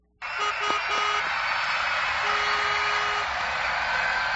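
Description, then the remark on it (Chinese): A steady, dense roar of traffic outside the window starts abruptly and holds throughout, with sharp sirens and running footsteps, a few short mid-pitched beeps early on and a longer sustained horn- or siren-like tone partway through. “窗外尖锐的警笛声、车声和飞跑的脚步声乱成了一片。”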